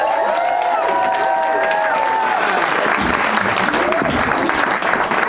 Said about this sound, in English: So if you would please now whoop, cheer, scream, give a very warm welcome